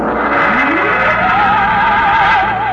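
Trucks and jeeps scuttle around on a vast concrete strip at Dry Wells, Texas, among cranes and loading machinery beneath a rocket, in the radio play Destination Moon; engines drone steadily and loudly while one motor's whine climbs in pitch and then holds with a wavering tone. No one speaks.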